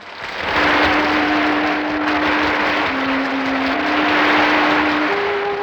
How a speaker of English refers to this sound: enters to applause, says something witty.